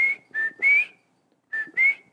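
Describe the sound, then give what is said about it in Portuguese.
A person whistles an imitation of a sabiá thrush's song: a short phrase of three clear, steady high notes, a brief pause, then two more notes, each slightly rising in pitch. “E aí, e ele tem um canto bonito, e cada sabiá tem um sotaque diferente. Como é que seria esse canto?”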